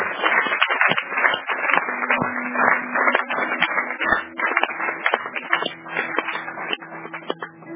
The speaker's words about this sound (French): Applaudissons très fort alors.